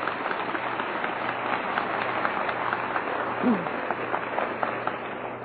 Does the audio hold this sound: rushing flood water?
no